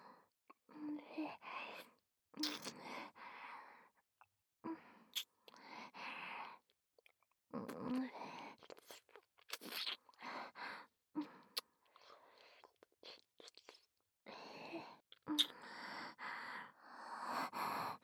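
Wet kissing smacks come in irregular bursts, mixed with soft, breathy sighs and exhales, all fairly quiet with short pauses between, and no speech.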